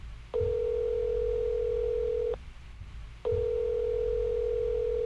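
A telephone line tone sounds twice while a call is placed, each a steady, loud hum lasting about two seconds, separated by a short gap of quiet line hiss, with no voices present.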